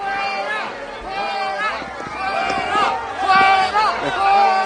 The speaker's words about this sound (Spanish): Son los abucheos de los madrileños en la visita de Pedro Sánchez al Hospital de la Paz